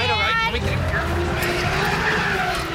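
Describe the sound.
A car engine revs hard while tires squeal and skid loudly on a slick road, a continuous screeching slide with rumbling motor noise underneath, and a voice briefly heard over it.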